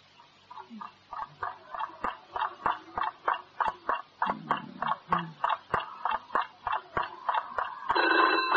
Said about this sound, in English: What's that? Oh, what is it? All right, it's a phone. Oh, it's 3 o'clock in the morning. You would be calling us at 3 o'clock in the morning.